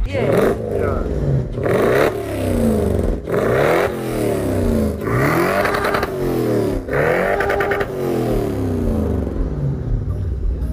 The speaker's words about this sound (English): What is the joy of spinning for you? Is it you controlling the car? Is it getting you out of control? The car, spinning, burning tires, the sound of the car, yeah. You get addicted to it.